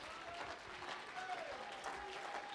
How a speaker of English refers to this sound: Clap your hands unto it.